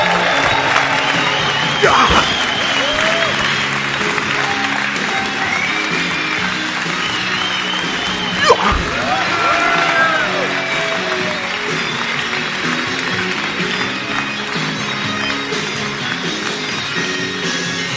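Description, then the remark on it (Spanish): A crowd applauds and cheers in a steady, dense wash of clapping for about eighteen seconds, with a few louder bursts and whoops rising above the noise, welcoming poet Dani Orbit at a poetry slam battle event. “Un fuerte ruido para Dani Orbit.”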